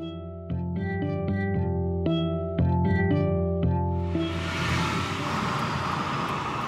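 Steady low engine hum with tonal harmonics inside a moving car, shifting as it accelerates, then a broad rushing wash of road and wind noise swells over the last few seconds.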